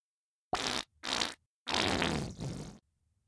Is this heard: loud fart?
yes